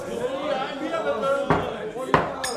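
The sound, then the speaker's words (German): Two sharp wooden knocks of a judge's gavel striking a bar counter that serves as the court's table land about half a second apart over a bed of murmuring crowd chatter and voices, followed by a faint third tap. “mit seinem Hammer auf den Tresen klopfte, der den Tisch des Hohen Gerichtes darstellte.”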